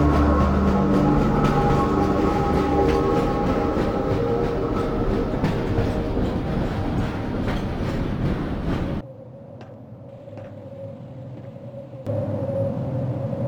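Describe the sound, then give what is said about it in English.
A train arriving at the Sector C test labs and control facilities rumbles loudly along with a steady clatter of wheels, then the noise abruptly drops to a low mechanical hum as it comes to a stop, followed by a brief shift in tone. “Before exiting the train, be sure to check your area for personal belongings.”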